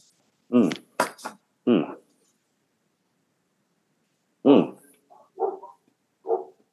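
dog barking

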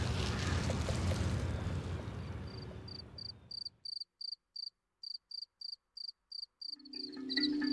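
male cricket chirping

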